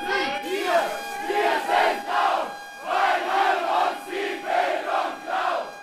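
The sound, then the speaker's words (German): Hundreds of protesting students gathered outside a university senate hall, pressing to be let in, shout in rhythmic bursts, loud chanted phrases rising and falling roughly every second, with a steady roar of many voices between them. “Vor dem Senatssaal haben sich hunderte Studierende versammelt und drängen auf Einlass.”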